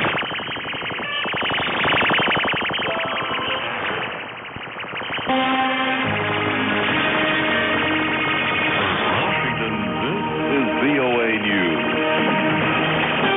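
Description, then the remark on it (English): Shortwave radio jamming targeting English-language international broadcasts: a harsh, pulsing buzz and warbling drone swamps a barely audible broadcast voice, staying loud and steady throughout, with sweeping whistle-like tones rising and falling later on. “that was the sound of jamming against the BBC World Service and the Voice of America”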